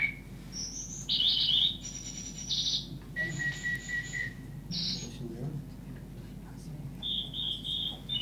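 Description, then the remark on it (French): Computer-synthesized birdsong like a parakeet's chatter: a quick string of bright, steady electronic chirps and whistles at varying pitches, some trilling, over a low hum with no voices. “le calculateur produit immédiatement, et alors là, en un temps très, très court, des choses comme ce que vous allez entendre”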